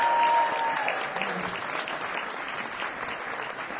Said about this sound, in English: Applause for the wonderful ….